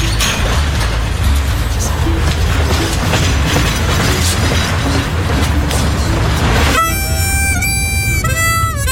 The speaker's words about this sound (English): On the downslope, the train stopped for 30 minutes at Upton Siding, which allowed us to walk the line and explore the high desert landscape of sagebrush, ponderosas, and oversized pine cones, until a northbound train passed.